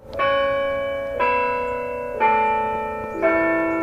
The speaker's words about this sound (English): A bell tolls from the old limestone Emmanuel Lutheran Church in Comfort, Texas, about 50 miles northwest of San Antonio.